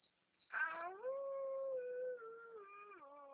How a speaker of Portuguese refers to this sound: Late coração, cachorro, late coração.